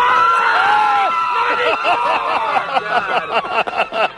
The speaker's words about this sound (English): I got to tell you, we have got a crowd out here in the infield. Listen up now. We got a little bit of wind out here, but we don't have any water yet. It's not raining yet.